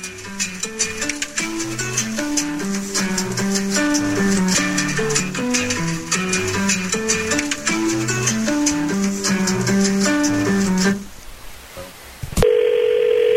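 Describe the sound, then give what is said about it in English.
A phone call being placed by the radio show Second Date Update: a melodic musical passage plays, then a sharp click and a steady, mid-pitched ringing tone sounds alone at the end. “We'll try to get on the line here and see if we can't get an answer for you on Second Date Update.”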